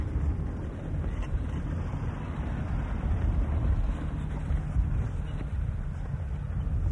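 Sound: car driving past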